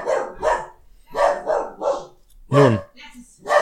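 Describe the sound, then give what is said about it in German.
A dog barks several times in short, sharp bursts at an uneven pace, loud, with a brief pause before a deeper final bark. “Heute mit Hundeeinlage.”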